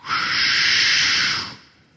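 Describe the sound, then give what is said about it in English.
An air conditioner starts up with a sudden, steady rush of hissing air that holds evenly for about a second and a half, then quickly dies away. “I've told y'all this, but that air conditioner right over there, when it comes on, it reminds me of the day of Pentecost.”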